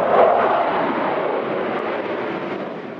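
A Russian fighter jet roars past at an air show in Tripoli, Libya, in a dense, rushing wall of engine noise that starts loud and fades slightly over three seconds, with no voices over it.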